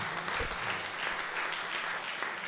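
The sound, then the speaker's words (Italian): An audience at the Circolo di Cultura di Piadena applauds steadily: many hands clapping in a dense, continuous crackle that holds an even loudness throughout, with no voices standing out above it. “E poi ci aiuta anche a riprendere, diciamo, visto che l'altro applauso dovreste farvelo a voi per la vostra capacità di tenuta, diciamo, con elementi di disciplina che qualsiasi padrone invidierebbe al Circolo di Cultura di Piadena per tenervi seduti”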